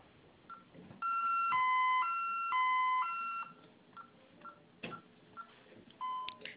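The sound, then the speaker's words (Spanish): A loud, alternating two-tone electronic alarm wails for a few seconds during a test, set off by holding the A key for five seconds, followed by a series of short, separate keypad beeps as a code plus 1 is entered to silence it, all heard thin and muffled as if over a phone line. “Oprima la letra A durante 5 segundos, se va a activar la alarma. En cuanto suene, ingrese su clave más el número 1 para silenciar, por favor.”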